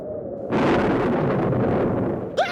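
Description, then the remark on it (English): A sudden loud thunderclap from a thunderstorm erupts out of a low rumble and rolls on as a dense, roaring crash for about two seconds, then fades just as a brief high chirp cuts in. “Thunder! Oh, I hate thunder!”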